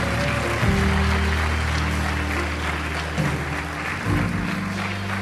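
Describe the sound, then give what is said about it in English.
Steady, dense audience applause for those who prayed the prayer fills the whole stretch, a constant crackling wash of clapping with sustained keyboard or organ chords playing underneath and shifting a few times. “If you prayed that prayer, we're so just give them just a round of applause.”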